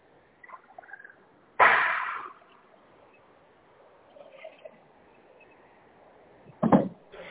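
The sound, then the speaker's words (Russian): A lower cupboard door is handled twice: a loud bang with a brief rattling tail, then several seconds later a second, shorter clunk, with faint clattering and quiet household noise between them. “Миш, открой нижнюю, эту, о, забери”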